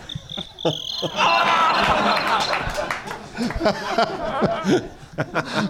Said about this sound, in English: that was Doug's solution when there were cricket problems at the venue. More crickets.